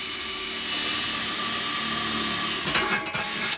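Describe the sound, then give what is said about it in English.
A power drill whines steadily at high speed, loud, drilling through the centre of a dish for a few seconds before briefly cutting out and revving again at the end. No one speaks. “So I'm going to drill the centre again.”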